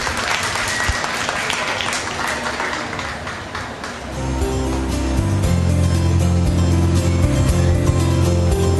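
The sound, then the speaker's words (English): An audience at the Davies County Fair Queen Contest breaks into loud, dense applause for the contestants for about four seconds, then the clapping thins as a steady low droning rumble, like an idling engine, rises underneath and carries on. “If you would give these girls a very large applause.”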